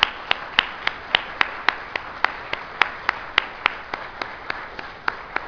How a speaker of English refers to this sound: So would you join with me in a round of applause for them and what they've done.